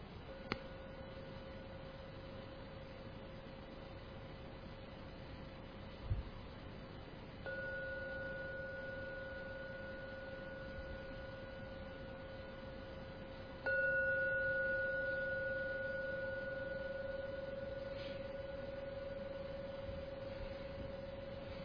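A meditation gong rings out three times, about seven seconds apart. Each stroke leaves a steady, mid-pitched hum that lingers and grows fuller with every strike, with no voices over it.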